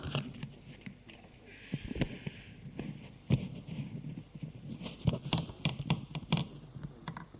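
A dip pen scratches across paper in a notebook in short, irregular strokes, with sharp taps and clicks scattered between soft scraping, fairly quiet throughout.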